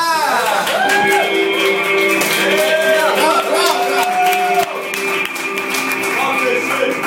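Steady, loud audience applause for a comedian at the end of his stand-up set, lasting the whole clip, dense rapid clapping with rising and falling whoops and cheers from the crowd layered over it.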